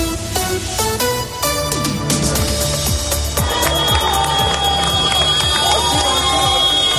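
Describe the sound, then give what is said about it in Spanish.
Car horns honk repeatedly as Carlos Sainz celebrates his fourth Rally Dakar win, honking while crossing the finish line on the final stage: short blasts at first, then long overlapping blares, over the loud, continuous noise of a cheering crowd. “Estos pitidos es la forma que tiene un campeón del Rally Dakar de celebrar una nueva victoria, tocando el claxon mientras atraviesa la línea de meta en la última etapa.”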